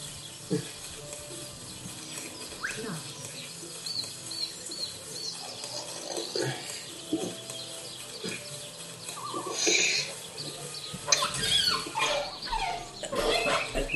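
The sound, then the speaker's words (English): A video game dog yelps and whines as it is attacked, its cries rising into sharp, strained bursts toward the end amid clattering, mechanical game effects. No one speaks. “Are you talking about the dog? Yeah. Yeah. You can kill it.”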